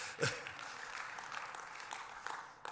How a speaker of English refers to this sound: Use your hands, whatever. But let's be a people who clap and praise the Lord.